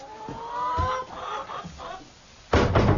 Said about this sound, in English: these ones here are the chickens Mr. Sowerby rears for slaughter, for eating